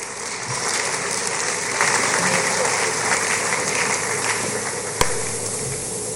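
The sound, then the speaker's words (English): A crowd claps steadily in a dense, sustained wash of applause that holds a fairly even loudness throughout, with one sharp louder clap standing out near the end. “Would you please, with a round of applause, welcome our transformational leader”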